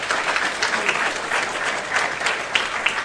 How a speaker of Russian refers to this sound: И в наших аплодисментах вам сейчас это выразится. Давайте поблагодарим нашу команду.